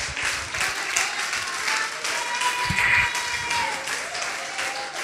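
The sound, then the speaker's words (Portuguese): An audience applauds steadily for several seconds, a dense, continuous wash of many hands clapping at an even, fairly loud level with a few scattered sharper claps and faint voices underneath. “Dê um aplauso bem forte a Jesus.”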